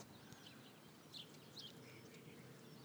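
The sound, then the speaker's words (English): Several short, high bird chirps ring out over a steady outdoor hiss, heard while someone walks outside, scattered irregularly and fairly faint, with a couple of brighter calls standing out in the middle. “Okay, here's hear the birds.”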